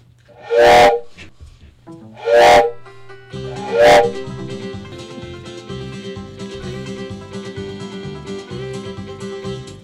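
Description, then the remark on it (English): Three loud, short train whistle blasts sound in quick succession, each about a second apart, followed by steady instrumental music that carries on to the end. “Is that the train I hear? Could it be drawing near?”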